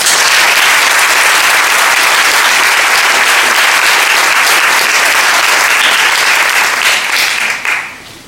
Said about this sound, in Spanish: por el compromiso y honestidad intelectual con que asumieron el desafío que les propusimos, vaya el agradecimiento de IDEA y FORES y nuestro aplauso.